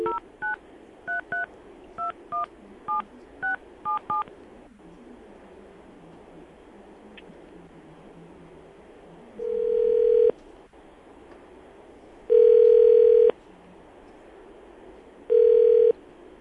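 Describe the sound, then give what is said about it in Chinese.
Eight quick telephone keypad tones are dialed in a brisk series, followed after a short pause by three longer, steady busy-line beeps repeating at regular intervals, clear with no talking; the number dialed is busy. “您拨的电话通话中，请稍后再拨。”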